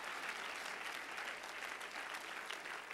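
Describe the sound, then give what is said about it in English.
An audience claps their hands together in praise of God in a steady, dense wash of applause that holds at an even, fairly loud level throughout, with no voices standing out. “If you love him, clap your hands into him and bless his name.”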